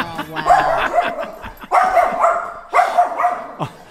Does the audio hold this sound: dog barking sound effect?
yes